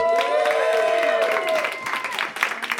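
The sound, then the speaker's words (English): An audience breaks into applause to vote for the TV show Arrested Development, a dense wash of clapping with a sustained cheer or whoop riding over it at first, then thinning into scattered claps. “Good people, with applause, who wants to hear Arrested Development?”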